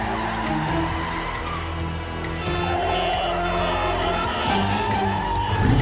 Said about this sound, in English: Suddenly, Batgirl and Robin's motorcycles appear in the truck's path, zooming straight toward it. The driver swerves and crashes.